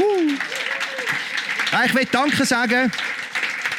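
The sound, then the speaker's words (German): Steady applause from an audience fills the whole stretch as a dense wash of clapping, with a few raised voices calling out over it midway through. “Oh, ich höre einen Applaus.”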